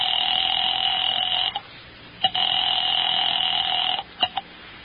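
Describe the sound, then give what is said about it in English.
A telephone rings in two long, steady electronic bursts separated by a short pause, loud, with small clicks between the rings and no voices, as a call is placed to Smokey Sullivan. “Item 5, 10 cents for a phone call to Smokey Sullivan.”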